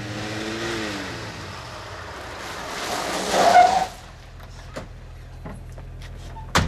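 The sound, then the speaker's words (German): A car engine drones and then surges with a rising, screeching burst as the car brakes hard to a stop, followed by a quieter idle and a few sharp clicks and clunks like doors opening as people get out of the car. “Achtung, anhalten.”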